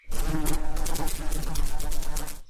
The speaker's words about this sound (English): I mean, you humans like to have insects buzzing around your heads, right?